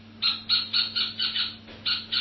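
An owl gives a fast series of shrill, raspy calls, about eight short bursts in quick rhythm with a brief pause partway through, clear, with no voices.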